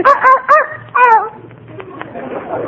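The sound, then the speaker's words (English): A small dog, Fifi, yaps three times in quick succession, then lets out a longer, drawn-out bark that trails downward, fairly loud, followed by quiet background rustle, in a busy post office at Christmas. “Fifi is a very intelligent dog and very valuable, too.”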